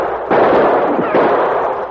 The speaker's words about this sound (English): The shots were coming from a screen of trees which fringed the edge of the cliff. The Mounties fired back at the flashes. Finally, one of their shots was followed by a distant scream.